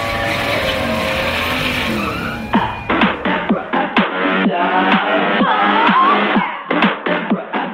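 Car engines start and then roar and rev loudly, a steady wash of noise giving way to rapid, choppy bursts of revving with a whining, tire-squeal-like edge.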